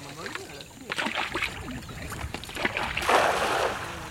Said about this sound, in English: head in their canoes to a lagoon, a short paddle from here.